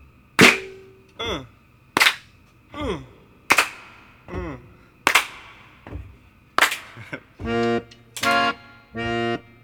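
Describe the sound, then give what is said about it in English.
An audience claps hands and stomps feet along with a song at a slow, steady beat about every second and a half; the sharp, loud claps are each followed by short vocal calls, and sustained sung notes take over toward the end. “And stomp your feet if you can.”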